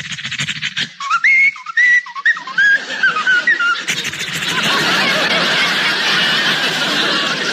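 A short tune whistled by a dog, a few clear bright notes rising and falling for about three seconds, then cut off by a loud, steady wash of crowd-like noise.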